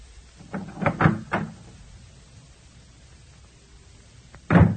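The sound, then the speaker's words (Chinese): The door of David's home, which he asks Michal to open, is opened with a cluster of wooden clunks and rattles, followed by a quiet pause and then a louder thump as it swings or settles. No one speaks. “米甲，开门呐，是我。”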